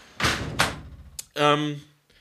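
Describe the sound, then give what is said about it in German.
A window being shut: two rough, rushing bursts of movement, a sharp latch click, then a short, steady, tonal squeak-like sound that fades out. “Ich mach kurz das Fenster zu, ist auch mittlerweile kalt genug hier drin.”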